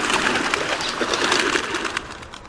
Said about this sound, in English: Something startles the flock of rock pigeons, and again they burst into flight.